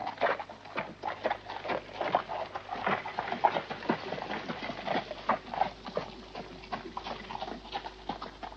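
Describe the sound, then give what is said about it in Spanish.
Horse hooves clop in a quick, steady rhythm as a horse-drawn carriage drives away, with faint rattling of the carriage underneath; no voices are heard. “Sube y el coche se aleja.”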